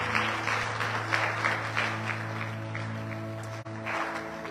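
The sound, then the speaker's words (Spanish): A church audience claps steadily during a Sunday service, applauding God, a dense wash of many hands applauding together for several seconds, with a sustained low hum underneath. “Le damos un aplauso a nuestro bueno y generoso Dios.”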